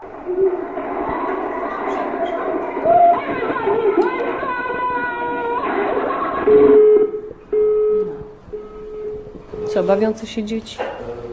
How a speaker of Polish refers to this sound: Bawiące się dzieci.